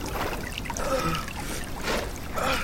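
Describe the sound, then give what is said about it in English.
A stream of sweet water gushes up from the ground where Arjuna fires an arrow, splashing steadily and fairly loud, with brief surges that swell and fade every second or so. No one speaks. “Arjuna fires again, and a stream of sweet water gushes up.”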